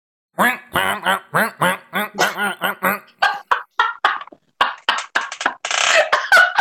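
A voice imitates a phone vibrating on a text notification with a rapid run of short, nasal, quack-like bursts, about a dozen in an uneven rhythm, fairly loud, ending in a longer buzzy burst.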